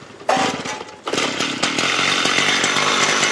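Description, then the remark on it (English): A loud power saw, a high-power rescue tool tested by firefighters during a drill at the Holosivsky District Fire Station in southern Kyiv, snarls to life, dips briefly, then roars steadily with a harsh, buzzing engine whine for several seconds. No voices are heard. “They test saws, cutters, and other high-power rescue tools.”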